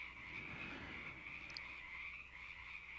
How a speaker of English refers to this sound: I love the frogs in the background there.